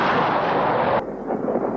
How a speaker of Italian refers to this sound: Un fulmine! Del mio trionfo il segno.